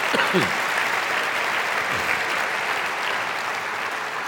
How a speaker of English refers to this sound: In fact, if you have gone overseas on a global peace mission, I want you to just stand up so we can applaud you and express our gratitude for you as representatives of our church. Thank you.